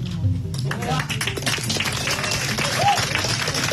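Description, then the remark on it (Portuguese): Steady applause from a group of deputies, a dense patter of many hands clapping at an even level for a few seconds, with murmuring voices mixed underneath. “Os deputados daqui aplaudindo.”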